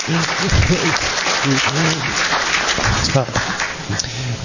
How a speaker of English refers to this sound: She's actually here in the audience somewhere. If you give her an applause, please.